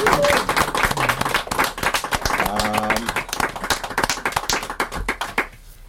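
A crowd applauds steadily, many hands clapping in a dense, close wash of sharp claps that carries on for several seconds before fading out near the end.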